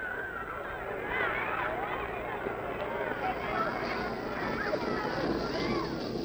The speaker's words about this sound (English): For proof, we offer these sounds captured by our tape recorder. This is the sound of a Stoughton playground at recess.